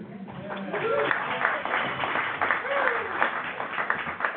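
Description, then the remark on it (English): An audience at a meeting applauds with steady, moderately loud clapping, while a few voices call out or talk over the noise. “This is my meeting. We're not going to applaud.”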